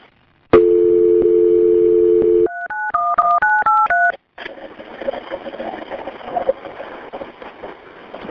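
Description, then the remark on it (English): A steady dial tone hums for about two seconds as an emergency call is transferred to fire rescue, then a quick run of six touch-tone beeps is dialed, followed by a brief silence and a noisy, crackly line connecting. “Okay, hang on a second, and we'll get fire on the line with us, okay? Stay on the phone.”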